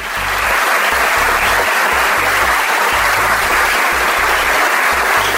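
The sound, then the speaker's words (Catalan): An audience at the Biblioteca Lluïsa Durán applauds the librarian's words of welcome, loudly and steadily, a dense wash of many hands clapping together that holds without a break for several seconds, with no voices standing out. “Aquestes van estar les aplaudides paraules de benvinguda de la bibliotecària”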